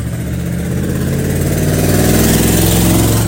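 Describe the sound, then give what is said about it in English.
A loud truck engine without a muffler roars past in downtown Frankfort on a Saturday night around 11:15 p.m., its deep throaty rumble swelling steadily as it passes, with no one speaking. “and there's a loud truck coming my way, so I'm going to pass here.”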